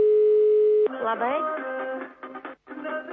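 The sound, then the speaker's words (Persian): A steady, buzzing telephone ringback tone plays over a phone line for under a second as a Radio Azadi program calls a home to give New Year greetings, then cuts off abruptly as someone starts talking in a muffled, line-quality voice. “در این منزل کسی گوشی رو نمی بردارد، شاید کسی نیست، همه به تماشای شهر برآمدند، شاید در بیرون جشن میگیرند سال نو رو، شاید موسیقی بلند است و کسی نمیشنود صدای گوشی رو.”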